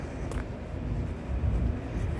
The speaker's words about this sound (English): And maybe you can already hear a very old tram passing by and a bicycle.